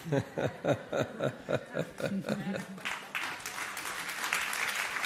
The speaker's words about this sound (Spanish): Sonrisa, humor y aplausos.